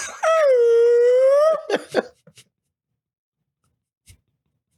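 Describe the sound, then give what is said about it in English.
A beluga whale vocalization: one long, loud, whining tonal call that bends slightly upward in pitch, then a few short squeaky chirps and clicks before it falls quiet. “White whales be like...”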